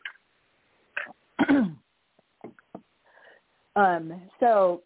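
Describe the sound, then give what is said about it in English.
A person with something in their throat gives several short, harsh bursts of throat clearing and coughing, fairly loud, separated by brief pauses with faint breathy noises, ending in two strong, voiced hacking coughs. “So, I'm going to cough. I have something in my throat now.”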